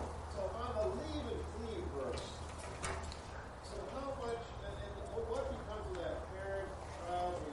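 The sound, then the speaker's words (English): Pigeons coo overhead repeatedly in low, soft warbling phrases that carry on steadily throughout, over a faint background hum. “I don't want any birds to drop on me here.”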